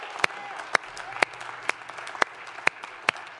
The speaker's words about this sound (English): I think we should just give a little clap of thanks to the Lord for what he has done for us.